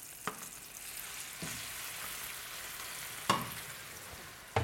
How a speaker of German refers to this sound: Das heißt, jetzt kommen die Cime, die Rabe, die gekochten, kommen jetzt in das Öl. Der Knoblauch sieht super aus. Sieht super aus. Und da kommen die jetzt da mit rein. Zischt. Das geht ab.